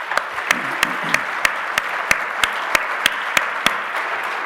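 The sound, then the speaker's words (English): An audience breaks into a sustained round of applause for the panel speakers, a dense wash of clapping with sharper, evenly spaced claps punching through at a steady rhythm the whole time. “Can we give everybody, these guys, a round of applause, please?”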